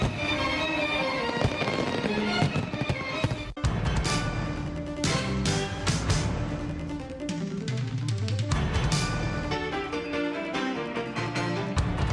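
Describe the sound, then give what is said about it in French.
Fireworks at a Fourth of July concert in front of the US Congress in Washington burst repeatedly in sharp, booming cracks, some in quick clusters, over loud, continuous music with sustained tones for the whole stretch. “Célébration 4 juillet a été fini comme d'habitude avec un gros concert devant Congrès avec feu d'artifice qui t'a tiré en l'air dans le ciel capital là.”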